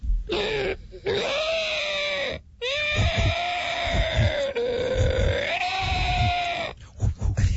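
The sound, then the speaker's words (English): An imitated pterodactyl screech, produced by blowing, standing for a pterodactyl called Terry with a 36-foot wingspan: a loud, harsh, wavering cry in two long bursts, the second lasting about four seconds, with gritty low grunting pulses beneath and no talking. “And you want to hear what it sounds like when Terry comes to life?”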